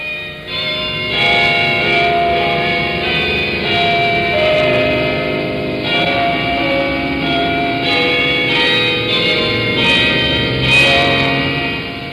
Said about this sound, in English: And on Sunday, there are church bells.